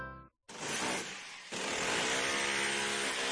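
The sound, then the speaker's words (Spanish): A brief motor whine cuts off, then a Makita electric power drill starts up and runs loudly, its harsh buzzing pitch climbing higher partway through as it speeds up. “Vaya pasada de taladro. Sí, es un taladro Makita.”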